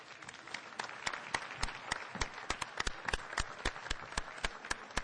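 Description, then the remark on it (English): An audience applauds three panelists after a panel discussion, a dense patter of many hands with sharper individual claps standing out in a quick, irregular rhythm, sustained at an even, moderate level throughout. “I just want to first give an opportunity for the crowd to recognize these three wonderful panelists”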